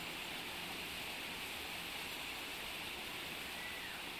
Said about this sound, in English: Notice how the flow of water is calming and yet powerful enough to wash away all your cares, worries, and fears.